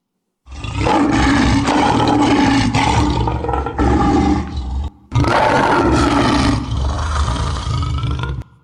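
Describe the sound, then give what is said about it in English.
A lion lets out a deep, rumbling roar in two long, loud bursts with a brief pause between them, powerful with no other sounds around it. “It's used to intimidate other lions, and it's used to intimidate prey.”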